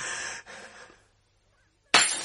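A wine glass falls into a sink, a bright shattering clatter that fades into a second of silence before another loud, sharp smash of glass rings out.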